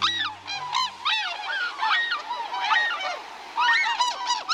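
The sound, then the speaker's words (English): A flock of tundra swans calls continuously as it passes overhead on a winter day, many overlapping hooting, honking voices rising and falling in a wild, echoing chorus, fairly loud. “As a flight of tundra swans passes overhead on a winter day, their voices swell in a kind of wild music.”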